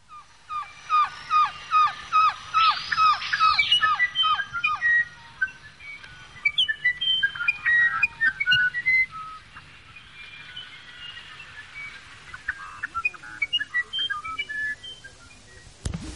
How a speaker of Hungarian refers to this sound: Madárvilágnak egyetlen olyan énekese van, amelyet két világhírű zeneszerző is mesterének vallott, a Fülemüle, ezzel kezdjük sorozatunkat.